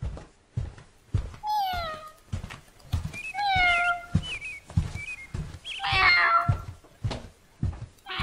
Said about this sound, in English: Oh, look at this cat. Why is it screaming? I think she's hurt. No, I think she is lost and wants to go home.